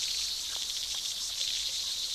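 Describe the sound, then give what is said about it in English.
A dense, continuous high-pitched chorus of aquatic true bugs (Hemiptera), which live mostly on the water surface, a steady shimmering buzz of many overlapping insect voices with no pauses, loud and unbroken throughout. “True bugs, Hemiptera, sing very, very high and loud and very continuously, this orchestra.”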